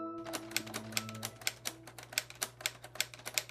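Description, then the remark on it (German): Rapid keystrokes on a typewriter built from Lego bricks clatter in an uneven rhythm, roughly a dozen sharp clicks over a steady low hum, fairly loud with no voices. “Ja, ich finde, wenige Geräusche können einen so schnell so nostalgisch machen wie Schreibmaschinen tippen. Und in diesem Fall sogar doppelt. Das ist nämlich eine Schreibmaschine aus Lego.”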